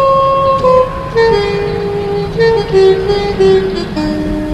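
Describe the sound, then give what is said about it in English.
A saxophone blown through a nostril plays a Christmas tune, a loud, honking run of held notes that step up and down in pitch, buzzy and slightly wavering, with no voices. “I played that with my nostril to get all three of them going like that sound.”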